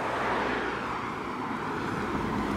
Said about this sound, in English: Whoa. This car just went by that is like, it's like a cool sports car, which is not common here. I don't remember ever seeing one before on this island. But it's also really weathered and old, and like the paint is all chipped off.